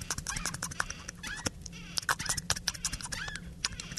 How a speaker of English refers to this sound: Are you polishing a knob on a squeaky door? Nearly. I'm oiling a door.